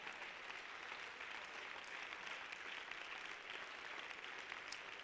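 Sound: audience clapping hands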